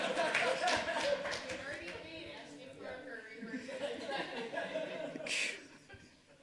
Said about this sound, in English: Round of applause.